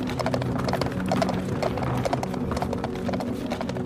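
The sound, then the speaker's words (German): Hooves of a carriage drawn by a team of horses clatter over the cobblestones of old lanes in Bath, England, in a quick, steady clip-clop, fairly loud, with a low rumble of wheels underneath. “Du kannst dir bildlich vorstellen, wie eine Kutsche mit prächtigem Pferdegespann über das Kopfsteinpflaster donnert.”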